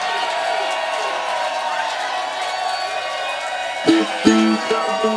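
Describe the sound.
A concert crowd cheers loudly and steadily as the band's bass player is introduced, a dense roar of shouts and whoops, with a few brief bursts of a voice rising over the din near the end.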